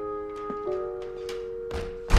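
door opening

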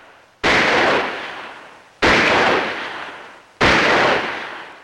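rifle shots

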